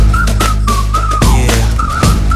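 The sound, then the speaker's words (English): A clear, tuneful whistle rises and falls around a steady pitch in short melodic phrases, sitting over a loud, thumping beat with bass and percussion. “Whistle.”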